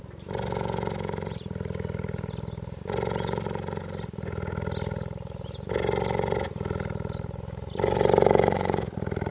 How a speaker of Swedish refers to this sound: Det är möjligen den bästa inspelning som någon har gjort av en spinnande gepard. Och där syns det också väldigt tydligt när han spinner rakt in i mikrofonen, så blir det väldigt mycket starkare